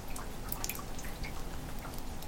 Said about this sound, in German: Und die Tonnen füllen sich mit dem schönen matten Wasser.